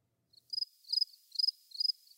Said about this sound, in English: Yeah, crickets. Yeah, crickets.